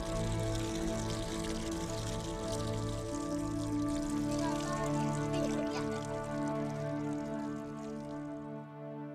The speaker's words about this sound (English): Boy, I love to see, like a fountain of life, just a little stream of water that we take for granted in the advanced countries of the world.